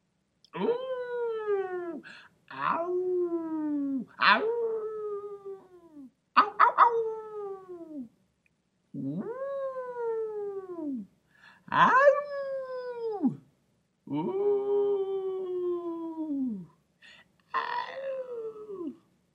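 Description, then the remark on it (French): A person imitates a wolf howling, giving about eight drawn-out rising and falling howls in quick succession, each loud, with short pauses in between. “Et le loup?”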